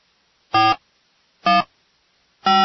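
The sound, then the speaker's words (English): Three short, buzzy electronic telephone tones sound about a second apart as a phone number is dialed, each a quick even beep, loud, with silence between them and no voices. “Let's see if we can go ahead and give Medea a ring.”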